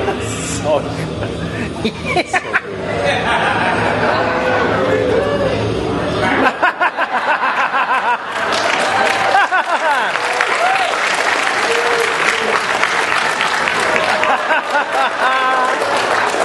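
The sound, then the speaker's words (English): A cinema audience at a screening of Final Wars bursts into sustained applause and cheering, dense clapping running throughout with shouts, screams and whoops rising over it, a crowd roar swelling loudly in the middle. “Everyone started cheering and screaming during this screening when they were watching it”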